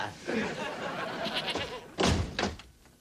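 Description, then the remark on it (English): A goat bleats in a few wavering cries, followed by a couple of heavy thumps near the end. “I'll just hang out on the porch and shoot the breeze with the goat.”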